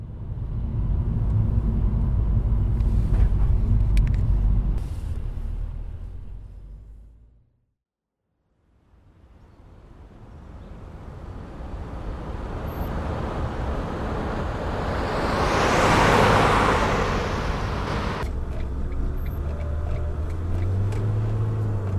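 A car drives with a steady low rumble of engine and road noise that fades out briefly, then swells into a rushing, whooshing surge before settling. No one speaks.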